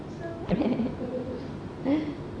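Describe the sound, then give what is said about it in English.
A caged nightingale, tied with a rope, calls twice in short, low warbling bursts separated by a pause of over a second, moderately loud against a faint background hum. “This is a nightingale, right?”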